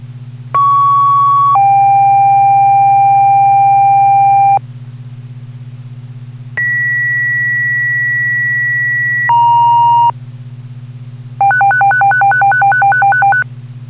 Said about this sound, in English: For all Claremont Fire personnel, respond to 39 Barnes Street, Working House Fire. Repeat, tone is for all Claremont Fire personnel, respond to 39 Barnes Street, Working House Fire.